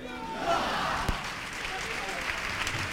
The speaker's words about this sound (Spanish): La hora que es, la fuerza de los aplausos, faltan 16 minutos para las 3 de la tarde.